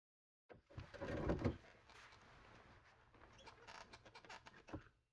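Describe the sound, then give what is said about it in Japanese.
A chair scrapes and creaks as it is moved back into place, a loud drag early on followed by softer knocks and rattles, with no one talking. “はい、タオルはこれでおしまいっす。椅子戻すっすよ。”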